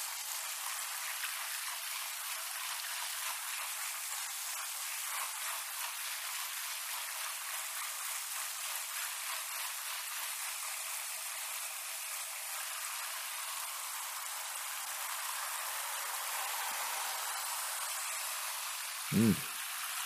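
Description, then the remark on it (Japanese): A shower sprays steadily, a continuous bright hiss of running water rinsing dirt out of hair before shampooing, with no voices and only a brief low knock near the end. “シャンプーつけてガシガシ洗うより、ちゃんと最初にシャワーできちんと流しておけばいいの。だからもうちょっと、きちんと汚れ流していこうね。”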